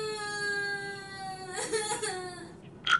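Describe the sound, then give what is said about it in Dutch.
A frog crying loudly: a loud, drawn-out wailing cry holds a steady pitch for over a second, then breaks into choppy sobbing bursts and ends with a brief high squeal. “De kikker begon hard te huilen.”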